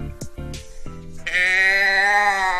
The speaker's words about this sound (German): Und hier steht ein Schaf neben mir. Ich habe ein Schafgeräusche-Ding neben mir stehen.